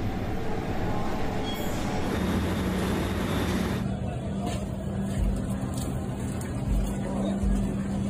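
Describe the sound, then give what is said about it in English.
A New York City subway F train at West 4th Street rumbles loudly and steadily, a dense low roar with metallic rattling and hiss throughout, brightening partway through as it rolls on. “Ugh, especially under the F train at West 4th Street, eh?”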